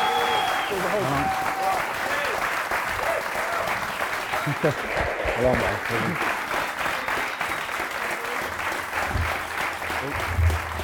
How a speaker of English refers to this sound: I'd like to finish by giving a round of applause